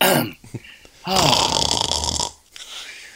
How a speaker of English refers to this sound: Snore much